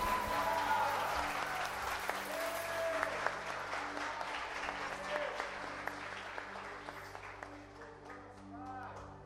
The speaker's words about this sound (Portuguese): Ouve a Ele com um forte aplauso nessa noite, amém?